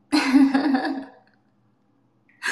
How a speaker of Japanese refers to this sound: ちょっと待って、くしゃみでしょ。ちょっと待って、ちょっと待って。ああ、くしゃみ出たわ。